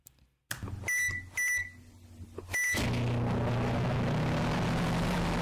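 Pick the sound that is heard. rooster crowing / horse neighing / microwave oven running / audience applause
microwave oven running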